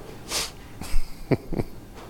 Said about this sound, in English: Wes said I need to breathe every once in a while, so that's what I'm doing. I'm just breathing, Wes.